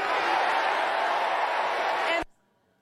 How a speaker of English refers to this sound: The crowd then erupting into chants of do something, do something.